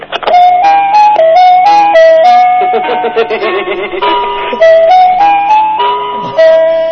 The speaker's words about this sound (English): Ice cream man! Ice cream! Truck coming!